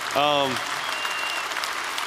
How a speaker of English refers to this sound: Yeah, he's here. He deserves a lot of applause. He deserves a standing ovation, truthfully.